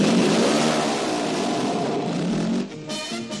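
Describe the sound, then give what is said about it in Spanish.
A loud motorcycle engine revs steadily with a rough, buzzing roar, then drops briefly and surges again near the end, from a 1975 television advert showing young people riding motorbikes without helmets. No voices are heard. “Un anuncio de Licor 43 del año 75 que mostraba a jóvenes montando en moto y sin casco.”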